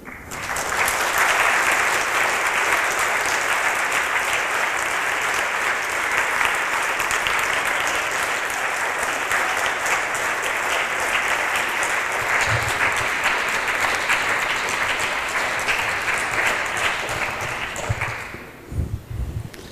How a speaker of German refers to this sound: Also ich glaube, wir können an dem Applaus schon ein bisschen erkennen, der war nicht immer so stark heute, dass der Vortrag ganz gut angekommen ist